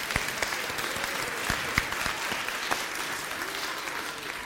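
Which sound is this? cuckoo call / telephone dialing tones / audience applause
audience applause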